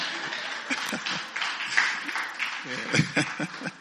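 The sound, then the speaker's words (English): A crowd claps steadily to welcome newly arrived people, a dense, continuous patter of many hands, with voices calling out and cheering underneath throughout. “We give them a big hand clap.”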